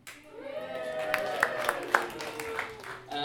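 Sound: audience cheering and applauding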